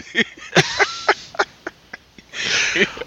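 A run of short, sharp coughs comes in quick, uneven bursts, followed by a longer, harsher hacking fit at the end, fairly loud.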